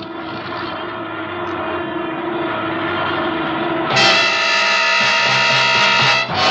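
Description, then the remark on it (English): A droning aircraft engine roars steadily and loudly, then shifts abruptly to a harsher, higher-pitched whine partway through as the failing starboard engine, on fire, strains and the plane goes down. No one speaks. “Oh, it's just the starboard engine. I'll have to feather the prop.”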